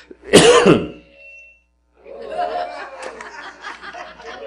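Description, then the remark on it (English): A single loud, harsh cough bursts out, followed after a short pause by a stretch of softer, raspy throat noises or muffled laughter-like sounds. “Lord, help me not to cough again.”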